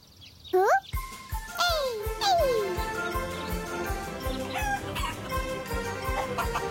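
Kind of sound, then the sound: animal, chickens clucking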